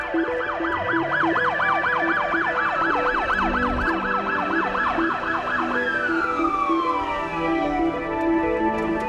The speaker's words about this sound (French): Comme un bruit qui court au son de la sirène de la police.